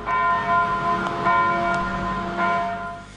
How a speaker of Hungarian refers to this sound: Ezen a napon a déli harangszó is az áldozatok emlékére szólt.